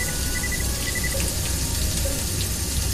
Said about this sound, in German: Na klar, jetzt, wo ich unter der Dusche stehe.